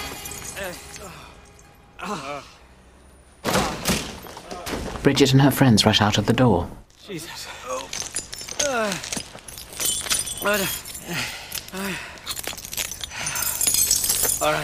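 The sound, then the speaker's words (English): A sudden loud crash of shattering glass bursts out for a few seconds as two men smash through a window, one having lunged at the other during a birthday song, with excited voices and talk before and after. “Daniel joins in the clapping and lunges at Mark. The two men crash through the window.”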